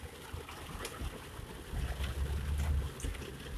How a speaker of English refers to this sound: You hear that rain outside, guys? Coming down good.